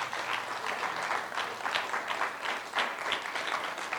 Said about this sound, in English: So let's give God an applause for these two incredible families.